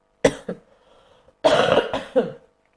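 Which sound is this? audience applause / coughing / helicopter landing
coughing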